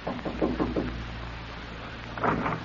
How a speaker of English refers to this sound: You thought of this as you walked toward cabin 3A, and you were smiling as you knocked on the door of Ralph Barton's cabin.